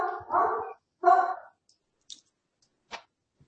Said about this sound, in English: Somebody's got a dog in the background. Yeah. Not me.